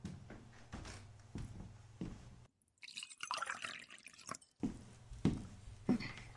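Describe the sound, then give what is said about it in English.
Water is poured into a glass for about two seconds, a bright splashing trickle between quieter stretches of low household rumble and small knocks. “I'm gonna go get you a glass of water, okay?”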